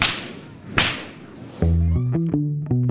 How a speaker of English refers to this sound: When I asked him how long he'll be cracking whips, he smiled and said there are people performing well into their 70s.